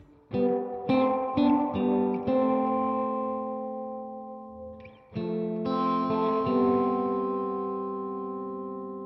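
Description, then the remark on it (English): Chords ring out through a reverb effect with no distinct echo repeats: several quick strikes, a brief near-silent gap, then one long sustained chord that slowly fades in a smooth wash. “Echo right off. Now just some reverb.”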